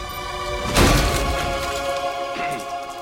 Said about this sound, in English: He smashes a walnut.